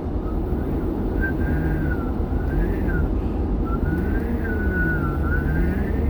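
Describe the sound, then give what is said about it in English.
A person whistles and hums at once: a thin, wavering high whistle slides up and down while a low hummed tone drifts beneath it, steady and moderately loud over a constant rumbling background noise. “I didn't know I could whistle hum still.”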